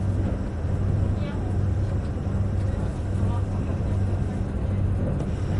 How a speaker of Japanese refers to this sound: 本日は近鉄特急アーバンライナーをご利用いただきましてありがとうございます。